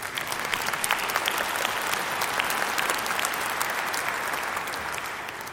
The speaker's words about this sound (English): Yes, you may clap if you agree.